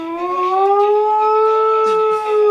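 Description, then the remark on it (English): A big dog lying on the ground lets out one long, loud, sustained howl that rises slightly and holds steady like a wailing siren, alone, with no talking. “Sounds like an alarm. Like an air raid. Yeah, siren, like they just dropped a bomb on us.”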